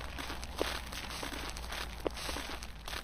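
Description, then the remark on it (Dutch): Soft, uneven footsteps of a tour group shuffle and crunch over a gritty surface as they walk around a nearly 55-metre-high monument to Arminius in a forest, with a couple of sharper steps standing out against a steady low background hum, no voices audible. “We lopen nog juist rond dit indrukwekkende, bijna 55 meter hoge monument.”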